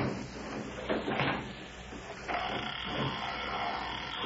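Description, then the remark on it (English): A gate is hauled open: a couple of dull thumps, then a steady, rough scraping rumble that carries on to the end, with no voices. “Open these gates.”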